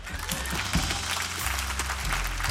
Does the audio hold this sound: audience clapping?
yes